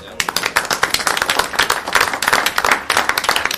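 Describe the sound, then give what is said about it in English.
At a meeting, a crowd breaks into steady applause after a speaker's remarks, many hands clapping in a dense, crackling patter that holds at an even, fairly loud level for a few seconds. “I think that calls for a round of applause, really.”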